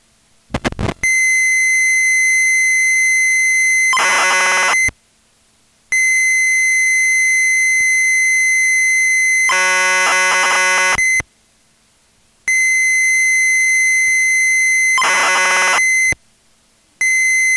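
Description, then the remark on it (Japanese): Screen data for the computer game Bound Bonbon (バウンドボンボン), encoded as cassette tape tones to be loaded in BG graphic mode: a loud, steady high-pitched carrier whine broken by three bursts of buzzy, warbling data, each followed by a brief silence. “これからはバウンドボンボンの画面データが入っています。 BG グラフィックモードにしてロードしてください。”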